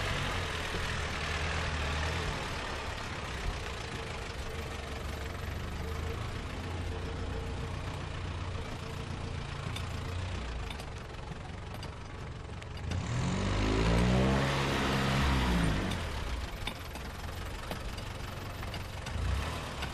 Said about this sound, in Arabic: صوت سيارة؟ الويل لي، إنه المحافظ، أين أختبئ؟